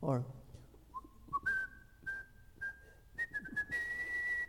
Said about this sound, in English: And well, when the whistling kettle whistles, it signals the water is boiling.